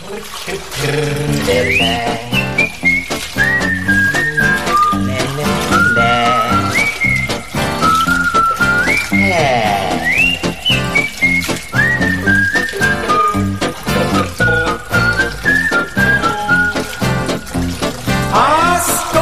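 A French chanson recording plays on a Sunday morning programme on Radio RV+, loud and continuous, with a bright whistled melody gliding over a steady, bouncy rhythmic accompaniment and light splashy water-like effects.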